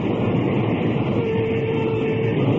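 A train at a railroad station gives a steady, loud rumbling roar, with a faint thin whine rising through the middle for about a second. No voices are heard.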